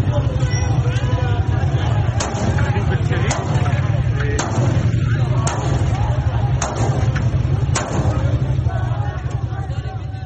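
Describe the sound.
Sharp gunshots from security forces firing at protesters crack out one at a time at a steady pace, about one per second, above a constant roar of crowd noise and shouting voices.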